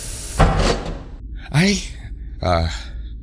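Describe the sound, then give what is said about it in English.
A door, closed by pressing a button on the wall, shuts with a brief thud, followed by two breathy vocal sounds like gasps or sighs. “She reaches around him and presses the button on the wall to close the door behind him.”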